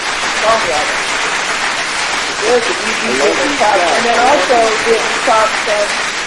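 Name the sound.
clapping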